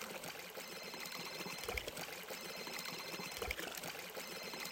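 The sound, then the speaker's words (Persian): Water pours steadily onto vegetable garden soil, irrigating the plots, in a continuous, even splashing hiss, with two brief dull thumps partway through. No one speaks. “خوب شد که کل زمین او خورد، ترکاریان بسیار تشنه شده بودن.”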